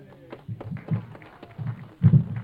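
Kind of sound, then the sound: crowd, applause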